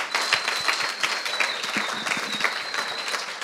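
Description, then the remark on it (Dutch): An audience applauds steadily, a dense wash of many hands clapping at once, holding an even, fairly loud level throughout with no voices on top. “Please give him a hand. Even applaus voor ze.”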